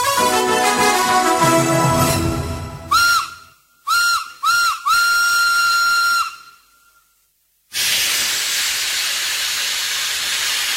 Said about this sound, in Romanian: Trenul tocmai s-a pus în mișcare și va pleca în ce direcție? În ce direcție, pe noi? Trenul Orient Express, care face legătura între Istanbul și Europa de Vest, Hamburg-Paris, a sosit la Vârciorova gară, la linia 1 și va pleca în ce direcție vrem noi